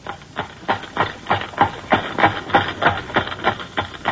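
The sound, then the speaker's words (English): Steady clip-clop of a horse's hooves striking pavement as it comes down the street, a brisk, even rhythm of sharp knocks repeating about three times a second, fairly loud with no voices over it. “he knows it's a horse.”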